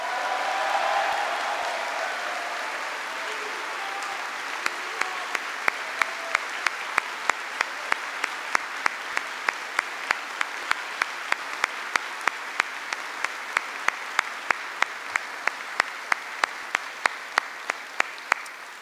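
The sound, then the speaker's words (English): A large audience applauds steadily for nearly twenty seconds, a dense, even wash of clapping, with sharp isolated clicks punctuating it through the second half; applause at Yongsan Garrison on Veterans Day for Congressional Medal of Honor recipient Hector Cafferata Jr. “Please give him an extraordinary round of applause.”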